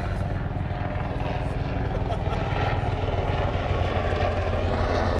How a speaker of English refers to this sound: a helicopter is trying to ruin this podcast.